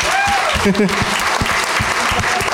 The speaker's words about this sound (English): Let's applaud this guy,